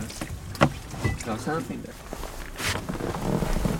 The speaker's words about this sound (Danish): Vi er i en lille jolle midt i ishavet, hvor vi gang på gang hører det ene net op efter det andet i forsøg på at få nok af de tykke arktiske vandlopper til at fuldføre forsøgene.